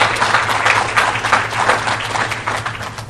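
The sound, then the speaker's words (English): A crowd applauds the newest Gale Scholars, many hands clapping into a dense, continuous patter that holds at a fairly even loudness throughout, with a low steady hum underneath. “I'd like to ask for a moment to I'd like to take a moment to ask for another round of applause for the Gale Scholar addition, because you deserve it.”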